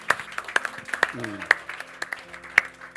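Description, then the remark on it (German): An audience applauds in a steady wash of clapping, with a few sharper, louder claps standing out. Soft sustained musical tones hum underneath throughout. “Ja, ich komme gleich durch einen Applaus.”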